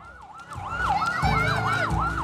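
An ambulance siren wails loudly as the ambulance arrives at a scene where people were killed and injured, its tone sweeping up and down in quick repeating cycles over a deep engine rumble.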